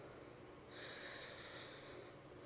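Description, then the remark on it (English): Heavy, quickened breathing, a sustained airy exhale rising after a brief quiet moment and holding steady. No one speaks. “Is your breath, does it quicken to match my own?”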